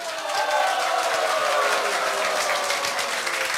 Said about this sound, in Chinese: 给自己掌声鼓励一下。